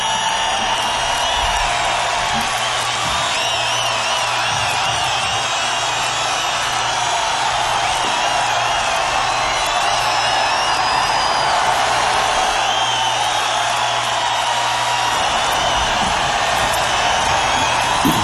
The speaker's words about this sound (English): Listen to that crowd, isn't it?